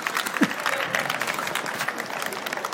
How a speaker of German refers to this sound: Sehr gut, Applaus.